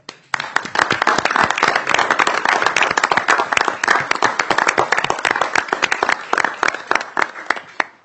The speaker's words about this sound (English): I'd also like to note, Mr. Chair, that both of these members are on the retirement list, and I think we should thank them for their work with a round of applause.